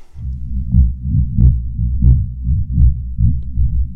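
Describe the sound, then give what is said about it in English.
Deep, muffled seismic thuds from a walking African elephant, picked up as vibrations in the earth: a steady low rumble that pulses in a slow, even rhythm almost like a heartbeat, with no voices. “It is the seismic sound of an elephant walking, the vibrations in the earth.”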